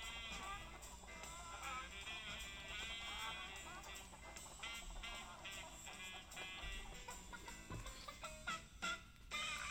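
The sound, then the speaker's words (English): A dense, steady chorus of chickens clucking and squawking, running continuously for about ten seconds with no pauses and no one talking. “See if the chicken will bring you some luck.”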